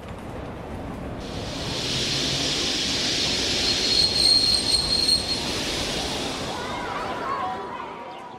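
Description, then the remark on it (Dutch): Train wheels squeal at a station, a sustained high metallic screech with thin whining tones riding over a low rolling rumble, loud, lasting several seconds before easing slightly. “In het station verward geroep van 100 kinderen die zouden afreizen. De plaatsen in de treinwagons waren genummerd.”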